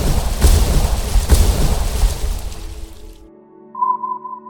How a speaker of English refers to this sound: On top of that, they were subject to an array of non-fatal explosions meant to turn away their boat. Practice depth charges, with small non-damaging explosions, banged against the boat day and night over the next few days.